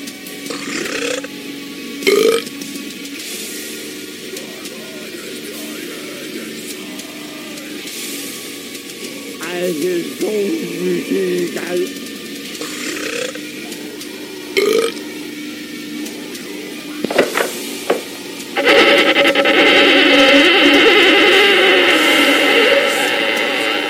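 A sample of a band's new heavy metal single: slow, droning low tones with deep guttural growled vocals, building into a dense, loud, distorted wall of sound for the final few seconds. No talking.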